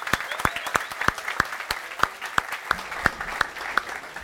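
An audience applauds to welcome someone, with a steady, rhythmic beat of sharp claps, about three per second, over a dense wash of scattered clapping that fills the whole few seconds.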